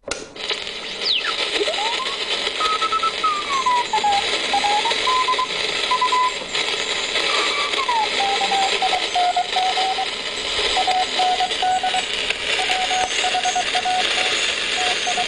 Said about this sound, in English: and at 11 o'clock in the morning on the 4th of December, 1916, we started sending out the weather by Morse code. And we have a recreation of what listeners would have heard. And I repeat, this is not the original audio. Here is a little taste.